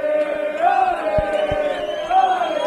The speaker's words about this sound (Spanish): Este vídeo, estas imágenes y este sonido es el recibimiento de los aficionados al autobús del Rayo cuando llegaban al hotel.